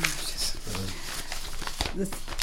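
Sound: rustling of papers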